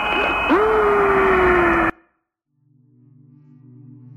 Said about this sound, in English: Do you hear that? That whistling sound?